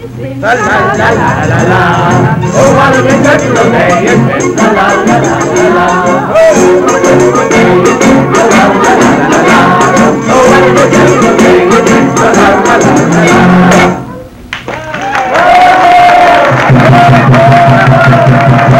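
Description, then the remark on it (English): A steady crowd hubbub in a courtyard as a Commedia dell'arte troupe mingles with the crowd after performing The Great Magician: many overlapping voices chattering at once, loud and continuous, with a brief dip near the end before the murmur swells back up. “The troupe of Commedia dell'arte players have finished their performance of The Great Magician and are now mingling with the crowd in the courtyard.”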